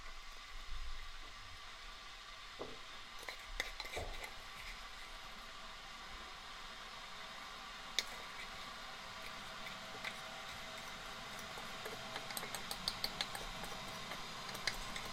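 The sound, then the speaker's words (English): Someone prepares a mug of coffee, putting coffee into the mug, with scattered soft clinks and taps of a cup and spoon over a steady background hiss. Nobody speaks. “And in meantime, I will prepare a mug and put coffee to the mug.”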